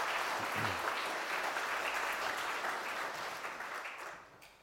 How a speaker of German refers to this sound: Und ich denke, das ist auch mal ein Applaus wert. Das ist einfach herrlich.